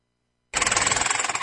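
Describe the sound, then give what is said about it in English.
A loud pneumatic rock drill starts abruptly after a brief silence, hammering in a rapid, steady rattle with harsh metallic bursts, sustained with no voices, as miners drill deep inside a Trinity Metal Group coltan mine in Rwanda's eastern province for lithium exploration. “Deep inside the coltan mine in Rwanda's eastern province, miners are drilling into a new future, lithium exploration.”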